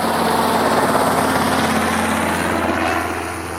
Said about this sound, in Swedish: då kan du höra en helikopter på håll